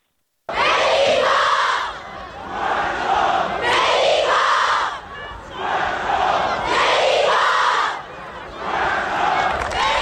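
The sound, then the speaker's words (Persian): A large crowd of football fans chants loudly and in unison in the stadium stands during the Tractor versus Malavan match, voices rising in rhythmic bursts roughly every two seconds with brief dips between, a sustained roar. “حتی روی سکوها هواداران تیم‌های مختلف این کار انجام دادن”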